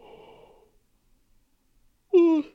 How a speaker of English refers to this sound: Sorry. Okay. Don't, because I'm so tired. If you can't hear, if that yawn stays in, I'm so tired, so don't follow me.